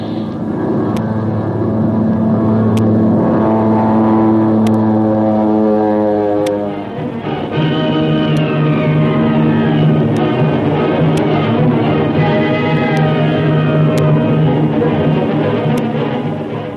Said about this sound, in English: diving to escape the machine gun bullets from one of our own planes, pushes his stolen Nazi ship down faster and faster. Will he be able to escape, or will he crash into the sea?